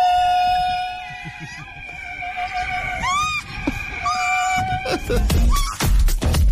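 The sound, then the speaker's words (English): A donkey in Connemara, Ireland brays in loud, harsh, rasping bursts toward the end, played together with a recording of a woman in her 70s sliding down a slide in Wicklow; sustained whiny tones glide up and down in pitch, with no talking. “And this is a donkey, a singing donkey in Connemara. And you play the two of them together and you got...”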